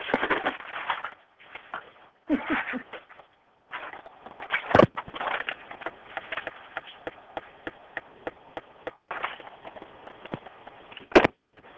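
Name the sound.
sneeze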